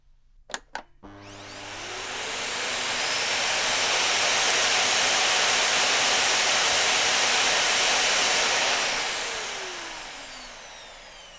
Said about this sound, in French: J'ai passé l'aspirateur.